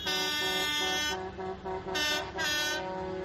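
Loud, blaring air horns from a convoy of tractors and agricultural vehicles at a farmers' protest in Lorca, Spain, honk over a rumbling engine background, one long blast followed by two shorter bursts, overlapping as the vehicles sound off together.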